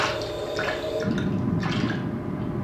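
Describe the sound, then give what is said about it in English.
An archer fish squirts a jet of water, forced out by closing its gills, a steady wet spattering and dripping that runs for a few seconds at moderate loudness, with no voices. “The archer fish uses a water pistol.”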